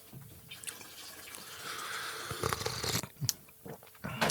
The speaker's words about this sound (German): Ich finde, dieses kochende Wasser gehört dazu, aber zur Soundkulisse.